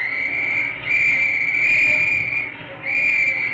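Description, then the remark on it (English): A shrill, steady chorus of penny whistles shrieks on almost continuously, blown together by players in the Philadelphia Athletics' dugout at Red Sox pitcher Don Brush during a baseball game in Philadelphia, dipping briefly twice before swelling back to full loudness. No talking. “He started the first game there, and the boys in the dugout started blowing penny whistles at him.”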